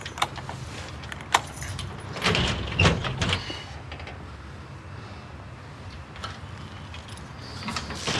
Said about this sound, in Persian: درو با کلید باز میکنه.